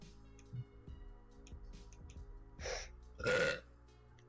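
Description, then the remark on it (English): A loud burp erupts in two quick gurgling bursts after a stretch of near quiet with faint ticking in the background. No one speaks. “Very impolite to burp in front of the audience.”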